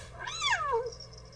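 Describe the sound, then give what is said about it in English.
A single clear cat meow rises and then falls in pitch over about half a second, moderately loud, followed by a faint high tone over a low background hum. “It's my cat. Well, it's not my cat, but he is a cat.”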